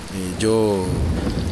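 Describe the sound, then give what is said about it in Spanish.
Heavy rain pours down in a steady hiss during a thunderstorm, with a brief tonal, voice-like sweep rising over it partway through. “Con esta tormenta no se escucha ni se ve nada.”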